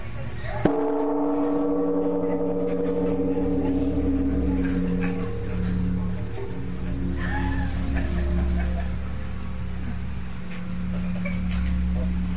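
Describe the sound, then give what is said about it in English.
A large, ornate bell, about 7 feet tall and weighing tons, is struck once, loudly, and its deep hum and layered overtones ring on, slowly fading for over ten seconds while faint voices murmur underneath. “That bell is about, I'm guessing 7 feet tall, wouldn't you say”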